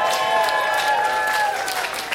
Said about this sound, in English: Thank you, Eddie. Let's hear a big round of applause for Eddie.